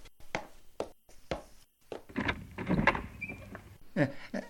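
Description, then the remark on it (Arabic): A door is opened for someone at it: a few sharp clicks from the handle and latch, then a longer rattling, scraping stretch as it swings open, with no one talking. “لحظة يا بني، سوف أذهب لأفتح الباب”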